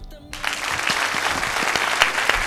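An audience on a TV programme bursts into steady applause for a guest, a dense wash of many hands clapping at an even loudness for a couple of seconds, with a brief tonal sound at the very start.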